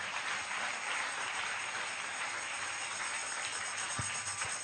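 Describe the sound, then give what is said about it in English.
A church audience claps steadily to welcome visiting guests, a dense, continuous wash of many hands at an even loudness with no voices, a few sharper claps standing out near the end. “Welcome them with your clap of friends.”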